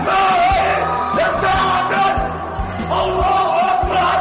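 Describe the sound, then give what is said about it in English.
A gunman screams and yells loudly and continuously in an agitated, shouted voice as he shoots Russia's ambassador to Turkey, Andrei Karlov, at a photo exhibit in an art gallery, with dull low thuds recurring underneath and a noisy, crowded background. “The screams of an Islamic terrorist today as he gunned down Russia's ambassador to Turkey.”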